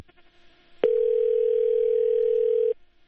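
A steady telephone dial tone from a call to a Voice of America correspondent in London that fails to connect during a live news program, sounding alone for about two seconds, loud and unbroken, beginning with a sharp click and ending abruptly, with faint background hiss before and after.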